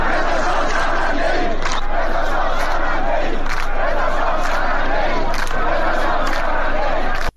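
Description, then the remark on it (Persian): A large crowd of protesters in Izeh, eastern Khuzestan, Iran, chants slogans including "Death to Khamenei" in unison, loud and continuous, with rhythmic surges of shouted syllables repeating every second or two over a dense roar of many voices. “بر اساس ویدیوهای انتشار یافته در شبکه‌های اجتماعی، معترضان در شهرستان ایذه در شرق خوزستان شعار مرگ بر خامنه‌ای سر دادند.”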